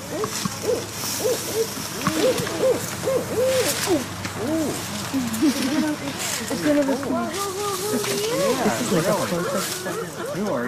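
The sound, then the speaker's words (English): An owl calling to its mate hoots repeatedly in a steady series of calls, heard outdoors in Sarasota amid faint background murmuring of people and a constant ambient hiss. “After a few minutes, we see the owl's neck bulge. We hear it call to its mate.”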